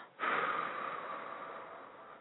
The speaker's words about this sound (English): So again, let's breathe in all the goodness and all that God has for you. Let's breathe that in. Let's hold it in our spirit and in our hearts for a while, and then let's breathe out.